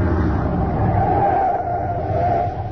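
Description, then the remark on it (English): A truck engine rumbles steadily as the vehicle drives along, its low drone easing slightly at the very end as it pulls to a stop. “We leave the truck here.”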